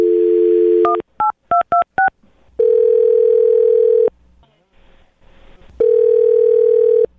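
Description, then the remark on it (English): A steady dial tone cuts off into five quick keypad beeps as a phone number is dialed, then the telephone line rings twice with long ringback tones separated by a pause. The sounds are loud, with no talking. “I'm going to dial the phone number right now and see if we can get her on the phone, okay?”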